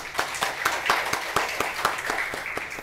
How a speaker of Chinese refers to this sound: 来给我们的这样精彩的一个内容哈，我们再次来掌声谢谢他。